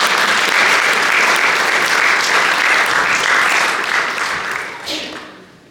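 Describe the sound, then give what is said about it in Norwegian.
An audience breaks into loud, sustained applause, a dense wash of clapping hands that holds steady for several seconds before thinning out and fading away. “Men vi kan i hvert fall gi din store applaus, gi din store applaus.”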